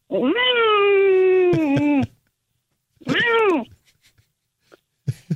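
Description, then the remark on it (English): A person imitates a cat over the telephone with two drawn-out meows, the first long and steady, the second shorter and falling, loud with a brief pause between them. “I can meow like a cat.”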